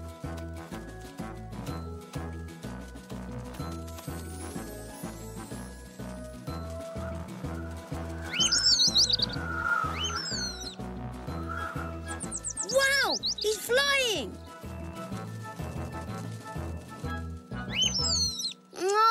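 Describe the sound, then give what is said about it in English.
Baby bird chirps and high tweeting calls as it learns to fly, coming in short bursts over steady background music, clustering in a few quick flurries toward the middle and end. “You, Pork, you've saved the baby bird, and you even taught him how to fly.”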